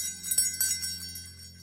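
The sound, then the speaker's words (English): A small bell rings with a couple of quick strikes, then a bright, shimmering tone fades out slowly. It is fairly soft, with no voices. “After we place our faith in him, that's when we can start to hear the bell again.”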